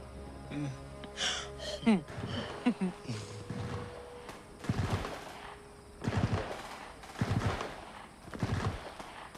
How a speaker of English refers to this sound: Traces of gunfire streak across the sky.